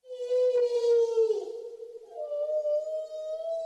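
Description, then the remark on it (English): Humpback whale song, recorded by author Douglas Carlton Abrams: a long, moaning tone that sags slightly in pitch, then a second, higher sustained call, both rich in overtones and steady in loudness, with no voices. “Switching gears here to the song of a humpback whale.”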